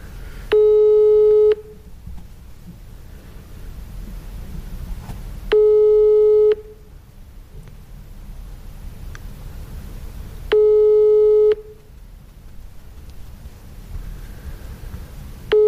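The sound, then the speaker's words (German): A telephone line tone during a phone call to a woman sounds three times, each a steady one-second beep separated by about four seconds of low background hiss, clear, with no one speaking. “Also ich würde sagen, wir rufen sie mal an.”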